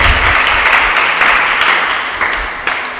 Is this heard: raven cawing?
no